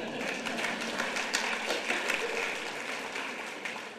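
A Sunday morning church audience claps steadily for about four seconds after a scripture reading, a dense crackle of many hands at a fairly even loudness, with no voices standing out.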